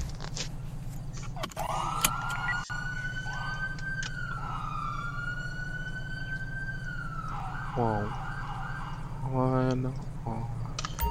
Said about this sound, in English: Oh yeah, guys, I did change the sirens since the last time I recorded a 5PD episode. Listen to these bad boys.